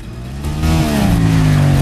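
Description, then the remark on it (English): Two motorcycles rev loudly and steadily climb in pitch as their riders accelerate away, a continuous roar lasting a couple of seconds with no voices. “They hop onto motorcycles and speed off.”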